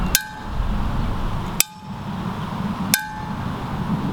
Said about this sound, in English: As you can tell from the background noise, we have a little bit of breeze going on, some birds flying around, and a fairly busy street a little bit to the south of us. Let's hear what the dinner bell sounds like.